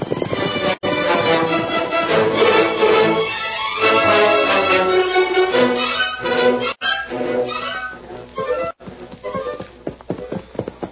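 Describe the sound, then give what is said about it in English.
Horses whinny loudly and repeatedly, then hooves break into a quick galloping clatter as the riders mount up and ride off to follow a trail, one horse named Silver, with a dense, busy mix throughout. “Mount your horse, Kemosabe. We're going to follow that trail as fast as we can.”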